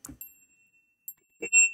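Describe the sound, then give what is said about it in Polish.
A small bell rings twice, each strike giving a bright, high-pitched tone that lingers and fades. The second ring is louder, with a faint clatter before each strike and no voices. “Jest dzwoneczek, jest herbata.”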